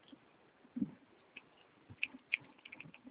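Soft, irregular clicks of someone typing a CNPJ number on a computer keyboard, a scattering of quick keystrokes with short pauses between them, fairly faint, with no voices.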